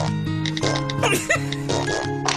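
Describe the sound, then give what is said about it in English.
Comedic fart sound effects from the iFart app on an iPhone play in a continuous run, buzzy and tonal with low droning pitches and a few squelchy upward and downward slides, fairly loud, no talking. “If you need to clear a room fast, or just make someone laugh, I fart for the iPhone.”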